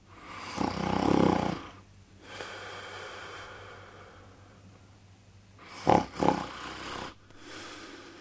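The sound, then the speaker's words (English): A person snoring very close to the microphone: two loud, rattling snores, the second broken into a double snort, each followed by a long, airy exhale. No talking. “That's actually a real close-up recording of someone snoring, which is, for some people, an incredibly annoying sound.”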